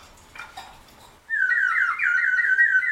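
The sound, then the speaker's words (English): A water-filled whistle from New Zealand, blown into, warbles loudly in a continuous, bubbling, birdlike trill at a fairly high pitch for about two seconds, preceded by a moment of faint breathy rustling. “I'm just blowing in it. I'm not even doing anything. Oh, because of the water. Yeah. It's got water in it.”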